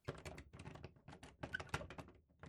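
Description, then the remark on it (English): The stuck knob of a door is tried, jiggled and rattled, making a rapid, uneven series of sharp metallic clicks and clunks for a couple of seconds, with no voices. “But even if the door's locked, they might notice if we try to turn the knob.”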